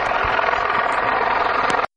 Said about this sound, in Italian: Non spiego perché l'elicottero fa troppo rumore, ci spostiamo più avanti e proseguiamo.